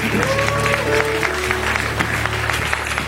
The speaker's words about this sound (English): So let's put our hands together. Can we clap for the co-pastor for joining our service?